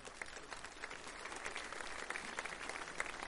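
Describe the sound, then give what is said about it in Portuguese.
An audience applauds steadily, a dense wash of many hands clapping at an even level with crisp individual claps standing out, sustained throughout without any voices. “Vamos aplaudir eles aqui, gente?”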